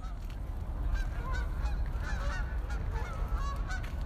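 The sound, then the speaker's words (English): Geese honk repeatedly in an overlapping, busy chorus over a steady low rumble of water and wind at Harborview Marina, the calls fairly loud throughout. “The birds are our favorite neighbors. You know, you get to know their noises and you get to know which ones are, you get to recognize the same ones, which is kind of fun.”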